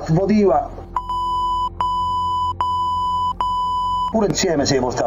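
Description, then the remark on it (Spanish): A steady high-pitched censor bleep repeats four times in quick succession, each tone sustained and briefly interrupted, with a man's voice speaking just before and after; Italian television's Channel 7 used the bleeps to replace the names of cardinals in a secretly made recording of a mafioso. “En la reproducción, el canal 7 de la televisión italiana ha sustituido con pitidos los nombres de los cardenales implicados en presuntos delitos de abusos sexuales.”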